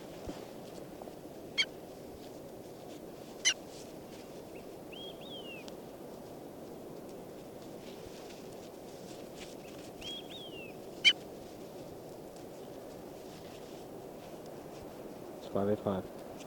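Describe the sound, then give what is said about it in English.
A couple of brief, high, chirpy bird calls stand out faintly over a steady wash of background noise, with a few sharp clicks and a louder rustling burst near the end. “Bird”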